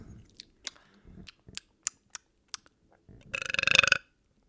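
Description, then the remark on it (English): A single loud, raspy burp rumbles out near the end after drinking beer, following a series of small sharp clicks and faint mouth noises. Nobody speaks. “One burp?”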